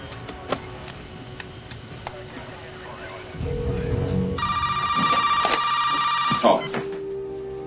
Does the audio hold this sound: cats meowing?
no